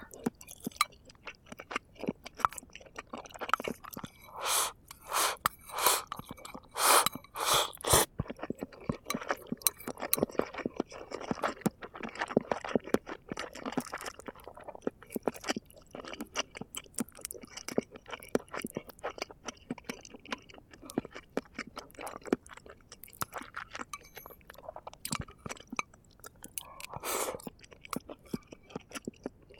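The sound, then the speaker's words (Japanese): Steady, moist chewing of a hearty miso soup packed with vegetables and mushrooms, with wet, squishy mouth sounds repeating in an irregular rhythm, punctuated by a few sharper clicks and clinks of dishware. “野菜とキノコたっぷりで食べ応えがある。”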